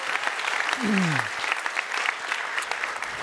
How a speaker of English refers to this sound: So we can applaud now. Yay, God, for all that you've done, right?